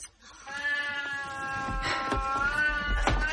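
A cat lets out one long, drawn-out meow, a steady, reedy wail that holds its pitch for about three seconds, with a few soft thumps underneath.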